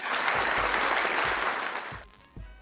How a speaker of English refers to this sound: Hold on. Let me see if I got some claps or some bursts or something.